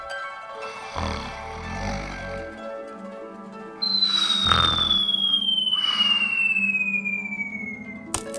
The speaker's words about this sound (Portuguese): Ai! Pancada! O que foi isso que caiu na minha cabeça? É claro, uma maçã. Isso que dá dormir debaixo de uma macieira.